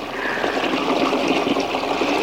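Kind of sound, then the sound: sound effect, water splash sound effect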